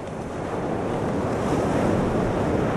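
A steady, continuous rush of ocean surf with wind blowing across it, fairly loud and even throughout, with no distinct individual wave crashes and no voices.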